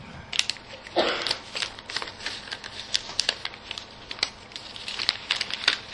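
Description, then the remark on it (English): A sheet of paper is handled and held up to be shown after a microphone is put down; it rustles and crinkles in a dense run of crisp, dry crackles and taps, with a louder crumpling burst early on, all fairly quiet and with no voices. “I'm going to put my microphone down because I need to show you this bit of paper first.”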